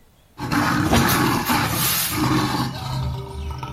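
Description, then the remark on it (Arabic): A deep, loud lioness roar bursts in after a brief silence and rumbles on for several seconds, sustained with a raspy, growling texture, as the lioness claws at a gap and tries to force her body through it. “لا أدري كيف ولا متى وجدت تلك الذرة الهائلة تقتحم الفرجة على بعد سنتيمترات من وجهي، وراحت تخمش هنا وهناك محاولة توسيع الفرجة، ثم توارت وراء الرأس، رأس لبؤة ثائرة تحاول أن تدس جسدها بشكل ما عبر الثغرة، وفمها ينفتح وينغلق محاولا القبض على شيء.”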